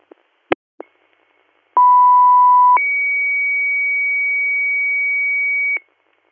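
Emergency pager alert tones for a third page to South Creek EMS, South Creek Township, Route 14, for a 70-year-old female with a respiratory problem: a few short clicks, then a steady mid-pitched tone for about a second, then a higher sustained tone for around three seconds, loud with no talking.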